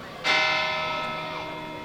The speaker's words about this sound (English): But 100 years ago, this bell could cut through the bay fog to guide boats to dock here.